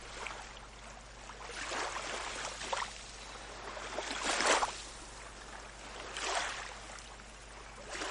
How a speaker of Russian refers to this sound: Для этого расположитесь удобно и закройте глаза. Вы ровно дышите и слушаете звук волн.